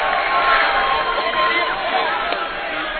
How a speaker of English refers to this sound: Sarcastic standing ovation from the Bearcat fans in attendance.